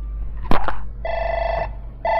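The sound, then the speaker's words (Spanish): A sharp click, then a telephone rings in steady electronic bursts, one long ring followed by the start of another after a short pause, clear with no talking. “A ver, un momentito, hermanos, que me llaman por teléfono.”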